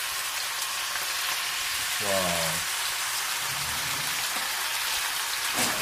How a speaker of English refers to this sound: Right, so now I'm going to fry the fish. So you've got two pans, separate pan for the fish. Whoa! Very satisfying sound.